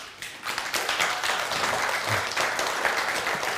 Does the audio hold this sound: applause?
yes